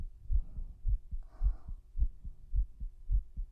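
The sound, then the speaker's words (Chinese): A rapid heartbeat thumps in muffled pulses, heard with an ear pressed against a person's chest, beating steadily at a quick pace with a faint rustle partway through. “心跳了吗？是不是很快啊？”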